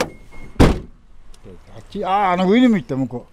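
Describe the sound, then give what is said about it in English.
A pickup truck door shuts with a single heavy thunk as the driver pulls over and gets out, followed a moment later by a man's voice speaking loudly and drawn out, with faint outdoor background underneath. “pulls over and gets out of the truck.”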